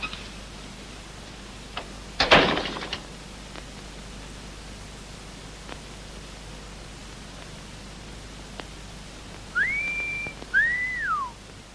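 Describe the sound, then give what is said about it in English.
A man whistles a short two-note whistle near the end: one steady, then one bending up and back down, clear. Earlier a brief clattering click and faint ticks sit over a low hiss. “Oh, maybe just whistle. You know how to whistle, don't you, …?”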